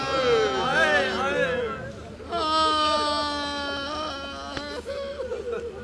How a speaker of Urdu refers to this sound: تصور ہے، اگر مراتب اہل بیت کا اندازہ ہو اور پھر ان واقعات پر نظر ہو تو کبھی آنسو تھم سکتے ہیں؟ یہ آواز گریہ کبھی تھم سکتی ہے؟ یہ پرانی قدیم مجلس ہے